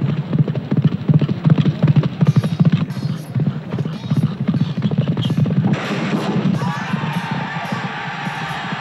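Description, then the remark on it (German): Rapid, rhythmic hoofbeats of a galloping horse pound, loud and steady, as a squire charges at a wooden knight dummy with shield and club, then give way to a rougher, scraping clatter near the end. No one speaks. “Wenn dem Knappen nicht gelingt, sie von seinem herangaloppierenden Pferd aus umzustoßen, dreht sich die Attrappe und die Keule trifft ihn mit voller Wucht.”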